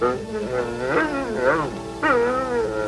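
A runt puppy whines and yips, its high, wavering cries sliding up and down in pitch, with sharper yelps rising out of the steady whimpering.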